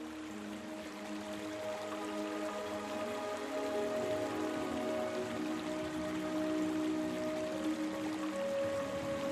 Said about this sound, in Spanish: Por allí pasa muy cerca el río que os regala el sonido del fluir.